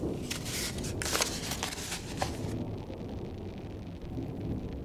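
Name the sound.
rain storm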